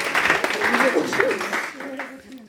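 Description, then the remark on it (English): An audience breaks into a burst of applause for someone who has just managed to complete a task, a dense patter of clapping with voices mixed in, fading away over a couple of seconds. “Well done, you managed it. Round of applause.”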